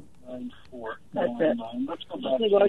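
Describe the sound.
Tinny, band-limited voices come through a phone line, with a radio broadcast playing loudly in the background on the caller's end and muddying the talk.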